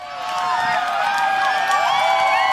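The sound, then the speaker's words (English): A large crowd cheers and whoops continuously as people react to the Great American Solar Eclipse while the sun slips behind the moon. Many high, excited voices overlap in rising and falling shouts, loud and sustained throughout, with no single speaker standing out. “It is, in fact, people reacting to the celestial show of the century so far, the Great American Solar Eclipse.”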